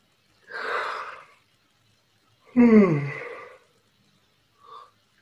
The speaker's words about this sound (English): Yawning and belching on my part have to do with energetic movement and release. It's not designed to be rude.